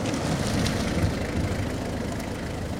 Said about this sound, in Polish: W tym momencie przed szkołę zajechał samochód.